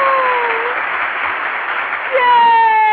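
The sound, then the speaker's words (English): A dense burst of applause from a crowd, steady and fairly loud throughout, with a thin sustained tone ringing over the clapping near the start and again toward the end. “Don't you just love an opening with applause?”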